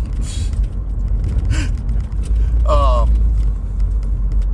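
Steady low road rumble from a moving car heading to a car show, with a few brief rattling clatters and a short squeaky creak near the middle from chairs shifting in the back of the car.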